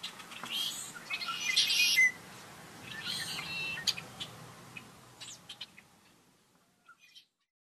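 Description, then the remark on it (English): Birdsong with bright, high chirps and trills, busiest in the first four seconds over a soft steady background hum, then thinning to a few scattered tweets before fading out. “If we can do all those things, we may be hearing more of this.”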